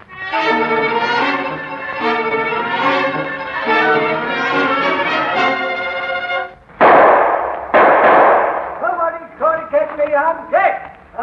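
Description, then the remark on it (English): Gunfire exchange at a cave, with an old man firing: after several seconds of voices, two loud, harsh bursts of shots crash in back to back, then talking resumes with a few smaller cracks mixed in. “There's a regular battle going on at that cave. But why is the old fool putting up a fight?”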